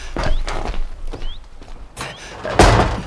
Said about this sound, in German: Na, die Tür ist zu.